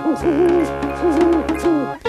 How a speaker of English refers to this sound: Owls hoot and hoot into their safe places, safe places. Owls hooting in the moon at twilight.